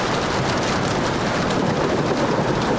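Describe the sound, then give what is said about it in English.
Steady, dense rainfall hisses continuously at an even volume, with a soft low rumble of distant thunder underneath and no voices. “that little distant thunder and the rain”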